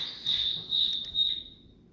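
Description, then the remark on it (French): Crickets chirp in a steady, shrill high-pitched trill with a few pulsing swells, moderately loud, fading out near the end; no one speaks. “Il y a des grillons par moi.”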